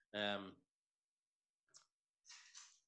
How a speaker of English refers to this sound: Well, dog's kicking off.